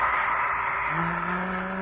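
A long, low voiced yawn starts partway in and holds a steady droning tone to the end, over a constant background hiss with no talking.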